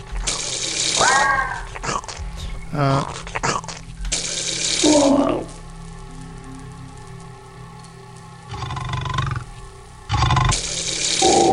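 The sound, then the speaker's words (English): Running water gushes in loud, splashy bursts that come and go, set against a steady low mechanical hum and faint tonal whines, in the power station level of a video game. “I'm surprised this place isn't really messed up because of all the water in here.”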